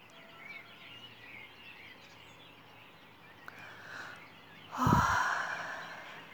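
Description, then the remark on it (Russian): Faint birdsong at sunrise on the longest day of the year twitters over a soft ambient hush, the calls scattered and gentle, until a breathy sigh-like whoosh rises near the end. “Послушаем еще пение птиц, провозглашающих восход этого удивительного дня, самой короткой ночи и самого длинного дня в году.”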